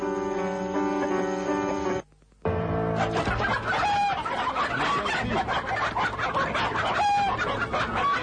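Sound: rooster clucking and crowing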